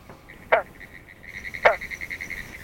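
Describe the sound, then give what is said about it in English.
Two separate, abrupt twanging territorial calls of individual green frogs, about a second apart, from a ditch near Orange Springs, Florida, stand out clearly over a steady, rapidly pulsing chorus of smaller frogs or insects in the background. “In eastern North America, the single notes of the territoriality call of individual green frogs can be heard throughout the summer.”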